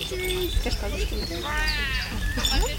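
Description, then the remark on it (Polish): A bird with sharp claws calls close to the microphone while being held and touched, giving harsh, croaking caws and a warbling, harmonic call in the middle. A small bell jingles amid handling noise and low rumble. “Oczywiście chciałam jak najwierniej nagrać, jak najbliżej te wszystkie efekty dźwiękowe, które wydawał ten ptak.”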